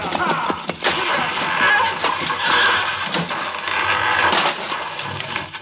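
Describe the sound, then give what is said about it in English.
A runaway horse-drawn wagon with a broken brake crashes in a loud, continuous clatter of splintering wood and rattling metal, with sharp knocks throughout and a bell clanging as it falls off. “The bell's fallen off.”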